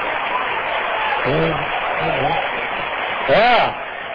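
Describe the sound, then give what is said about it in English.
A crowd claps steadily in a dense, even wash of applause, while a few voices call out over it, with one louder rising shout near the end. “Don't you sit there and clap if you got some kids out of your church in that school.”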